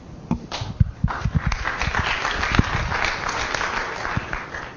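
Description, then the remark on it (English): An audience at an astronomy conference applauds after a talk, with steady, dense clapping that starts with a few sharp claps, swells quickly, and holds at a moderate level for several seconds. “Claps again.”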